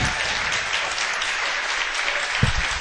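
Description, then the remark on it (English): A crowd applauds two team players at an evening live event, a dense wash of many hands clapping at an even, fairly loud level throughout, with a slightly sharper burst near the end. “Let's give Adrian and Michael a big round of applause.”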